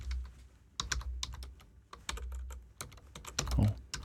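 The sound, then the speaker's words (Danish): Rapid clicking of keys on a computer keyboard as a new line of text is typed, irregular bursts of typing with a low background hum and a slightly louder thump near the end. “Og så kunne vi godt skrive ny linje, så skal vi bare slutte den af, ikke?”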